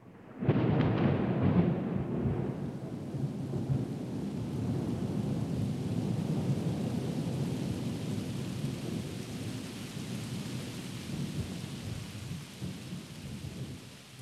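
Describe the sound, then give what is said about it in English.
Steady, heavy rain pours without a break, opening with a loud rolling rumble of thunder. No one speaks; the downpour stays even throughout. “It rains across the country, I remember.”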